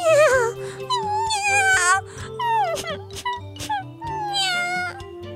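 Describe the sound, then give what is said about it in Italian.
A string of whiny, wavering cat-like meows and cries on the Radio Magica programme, several in a row with drawn-out sliding pitches, loud over a steady low musical backing. “No, non piangere.”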